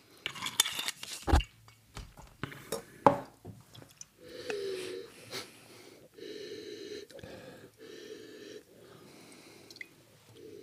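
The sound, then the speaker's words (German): A cork is pushed back into a bottle of rosé wine: a couple of sharp knocks, then a run of repeated squeaky, rubbing creaks as it twists into the neck. No one speaks. “Nee, aber in den Rosé den Korken wieder, weil ich stelle den auf den Boden.”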